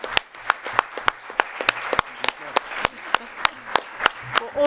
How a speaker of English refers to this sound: I think we need to have a very, very good applause